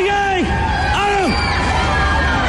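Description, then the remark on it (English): A crowd of 350 schoolchildren cheers and shouts together to greet the new president, President Higgins, with high voices rising in repeated whoops and falling calls over a steady, loud wash of excited babble. “They cheered and shouted for the new president and presented the First Lady Sabine with posies of flowers.”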